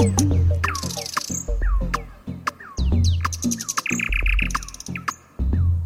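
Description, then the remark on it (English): A nightingale sings loudly and continuously, pouring out rapid whistles, chirps and buzzing trills in quick varied phrases, with a low steady hum beneath and no talking. “just like the nightingale, a bird that sings out in the dark.”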